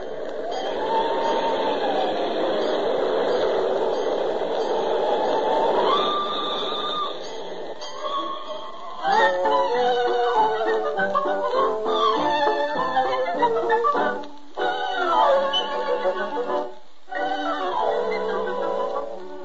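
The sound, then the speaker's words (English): A group of voices imitates a fire engine siren for the Let's Pretend telling of Puss in Boots, with wailing tones that rise and fall, then a busy chorus of overlapping high-pitched whoops and shrieks that swell and dip for about twenty seconds. “a fire engine it is.”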